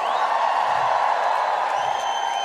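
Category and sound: crowd, loud concert crowd cheering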